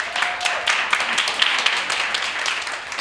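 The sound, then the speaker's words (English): A crowd applauds steadily, a dense wash of many hands clapping at once with sharp individual claps poking through, fairly loud and sustained for the whole few seconds. “There you have, yes, please applaud.”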